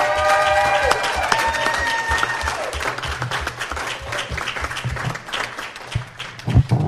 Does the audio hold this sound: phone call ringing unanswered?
no